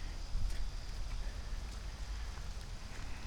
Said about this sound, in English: And as soon as I say that, then I can hear the sounds of it starting back up again. All the water hitting the leaves.